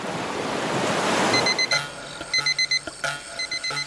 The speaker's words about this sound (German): Den Wecker stellen, um rechtzeitig zur Arbeit zu kommen.